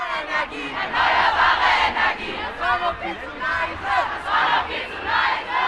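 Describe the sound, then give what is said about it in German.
A large crowd of school students at a protest march in Hessen, Germany, chants loudly in a steady, rhythmic cadence, many voices shouting together in repeated bursts with a continuous roar of voices underneath. “Das ist das Mantra, das all diese Proteste weltweit vereint.”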